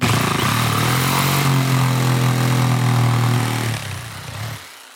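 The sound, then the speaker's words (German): A loud power tool drones steadily with a strong motor hum as it cuts a door opening into the wood of a small wooden house being built, its pitch shifting slightly as it cuts, then winds down and stops near the end. “Und jetzt schneiden wir noch eine Tür rein. Achtung, Finger weg.”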